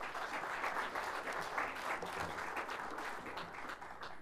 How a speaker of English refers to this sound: Give him a great hand.